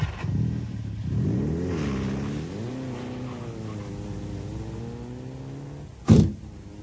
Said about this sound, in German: Endlich sind auch die Leute aus der ersten Reihe wieder bei ihren Wagen angelangt. Der Erste startet. Dann der Zweite. Und der Dritte.